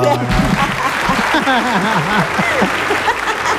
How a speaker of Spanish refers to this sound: Ándale, mira nomás. Sí, triple aplauso.